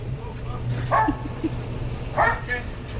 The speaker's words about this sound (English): I didn't know there was a dog in the laundromat. He belongs to that crazy guy back in the back corner. That was a little scary. The dog scared me there for a minute.